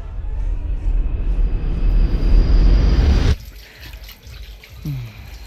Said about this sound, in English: Why don't you go to the bathroom, splash some water on your face?